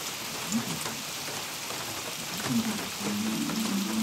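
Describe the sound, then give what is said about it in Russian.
Heavy rain pours down in a steady, dense, enveloping hiss throughout, with a faint low tone creeping in toward the end. “Ах, эти ливни, и даже если вдруг изо всех щелей дует, дует эти ливни, мы под одним зонтом против ветра шли.”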